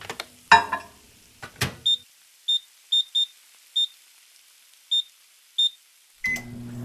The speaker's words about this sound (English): Who's got that kind of time? This is a job for my microwave.